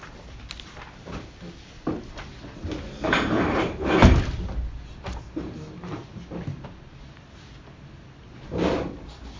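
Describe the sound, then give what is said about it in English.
A door being opened: a rattle and scrape building to a solid wooden thump midway, followed by a quieter shuffle and one more brief knock near the end, with no one talking. “You just have to open the door, it's even more accessible.”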